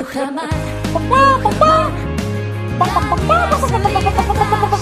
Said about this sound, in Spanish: Las gallinas de Rujamar. Las mejores gallinas de España.